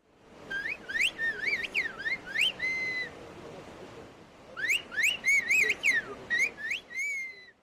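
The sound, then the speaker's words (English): A person whistles in a whistled language, using whistling sounds in place of words, in rapid, gliding pitch contours: two bursts of varied rising and falling tones separated by a short pause, clear, mimicking the rhythm of spoken phrases. “A whistled language is a highly developed method of communication. People use whistling sounds in place of words.”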